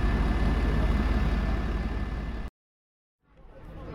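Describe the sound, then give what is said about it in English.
A double-decker bus engine idles next to the speakers on Market Street with a deep, steady rumble, then cuts out abruptly to silence for under a second before a softer rumble returns. “On the floor on Market Street with a double-decker bus next to us.”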